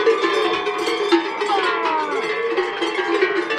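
Several cowbells clank and jangle continuously in an irregular, overlapping jumble of bright metallic tones, fairly loud and steady throughout, with no voices.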